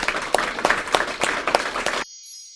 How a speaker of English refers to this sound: And please, a very sincere thank you. A round of applause for our guests would be fantastic.